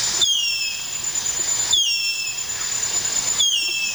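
A harpy eagle calls three times at an even pace, each a high, thin whistled wail that slides downward in pitch, over a steady hiss of background noise with no voices.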